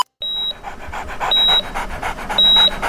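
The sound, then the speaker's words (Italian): A dog pants quickly and steadily, each breath a breathy rhythmic puff, while three short high-pitched electronic beeps sound at regular intervals over it. “Sarà un cane abbandonato?”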